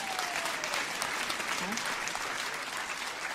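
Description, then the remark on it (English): Steady, dense applause from a large audience answering how many saw a band's first appearance on the Ed Sullivan Show, a continuous bright wash of clapping that holds at an even level for several seconds without a break. “And how many people in the audience, by applause, how many of you saw … the first time on the Ed Sullivan Show?”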